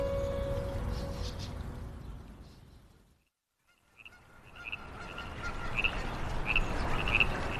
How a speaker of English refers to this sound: I couldn't leave LA without hearing the call of the Baja California frog that Stephen Appleton mentioned over in Frogtown. He told me to come here just after dusk and listen to the theatre of the river come to life.